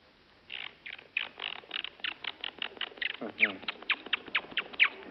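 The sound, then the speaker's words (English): A voice imitates a monkey with a rapid series of high, squeaky chattering calls, about a dozen in quick succession, fairly loud. “Now a monkey.”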